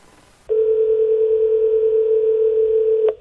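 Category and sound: signal or alarm, telephone dial tone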